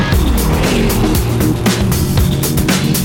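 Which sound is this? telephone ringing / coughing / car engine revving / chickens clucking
car engine revving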